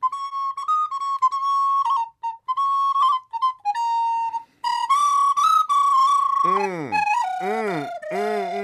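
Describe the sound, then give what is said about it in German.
An eagle owl whistles a long, shrill, warbling tune, loud and on its own, with quick fluttering trills that break into repeated sharp downward swoops near the end. “Bitte hör auf, verzeih mein gefiederter Freund, aber davon welken meine Ohren.”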